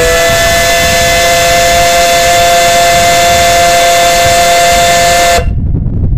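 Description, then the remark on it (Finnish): The steam whistle of the steamship SS Venno on Lake Saimaa, in slight wind, blows one long, loud, steady blast with several harmonic tones over a rushing hiss, then cuts off abruptly, leaving low rumbling noise. “Saimaa upeimmillaan täältä SS Vennon kannelta ja nyt kuma”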